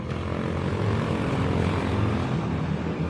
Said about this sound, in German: Heute, wenn du mal in Wien sein solltest, kann man die Ringstraße natürlich zu Fuß oder mit dem Fahrrad wunderbar erkunden. Man kann ja auch mit Go-Karts rumfahren, wie man hört.